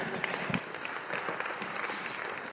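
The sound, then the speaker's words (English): A crowd applauds a scripture reading steadily, many hands clapping in a dense, even patter that holds at a constant level for a couple of seconds before cutting off abruptly. “That deserves some applause, huh?”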